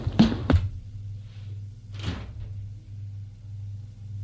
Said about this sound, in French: Va ouvrir la porte de la maison.